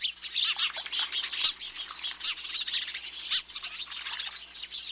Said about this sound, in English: If you aren't interested in setting out bird feeders, installing a bird bath can be an entertaining alternative. These chattering, gregarious house sparrows may be the first to arrive.